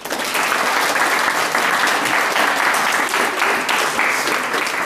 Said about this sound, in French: Merci de vos applaudissements.